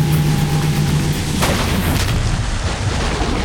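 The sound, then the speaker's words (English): A sharp gunshot cracks out as a man fires at fuel-flooded boats moored at a jetty, then a loud explosive blast as the boats erupt into flames, rolling into a sustained, dense roar of burning, with a low tone humming underneath at the start. “turns and fires at the moored boats. They erupt into flames.”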